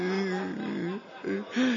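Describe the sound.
A wavering voice whimpers and cries in short, broken phrases, its pitch quivering up and down with a brief pause in the middle before the sobbing resumes.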